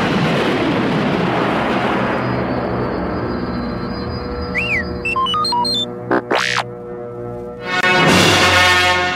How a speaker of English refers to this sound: As Luke lifted away, the Death Star exploded in a dazzling ball of flame.